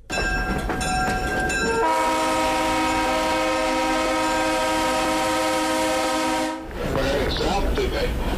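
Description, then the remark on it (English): A horn on a historic excursion train in West Virginia blasts loudly in one long, steady, multi-toned note lasting several seconds, over a constant rumble and clatter of the train rolling along the rails. “He works as an interpreter aboard the Cheap Mountain Salamander, one of the historic excursion train rides in West Virginia, operated by the Durban and Greenbrier Valley Railroad.”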